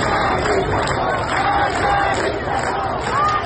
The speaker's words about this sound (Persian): در تهران منطقه نارمک هم مردم در تجمع شامگاه شنبه شعار مرگ بر دیکتاتور سر دادند.